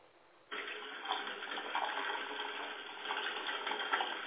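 A faint hiss gives way after a half-second to a steady rush of still-cold water pouring from a tap, continuous, with no one speaking.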